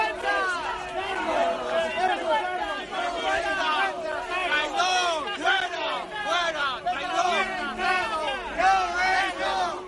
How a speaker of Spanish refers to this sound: Los aplausos a Miquel Iceta contrastan con los abucheos con los que son recibidos Lambán, Barreda o José Blanco, y avanzan un nuevo día de tormenta.